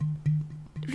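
A bottle is tapped a few times in quick succession against a person's tongue to get the last drops out, each knock producing a hollow, low resonant thud. The taps are fairly loud, with no talking.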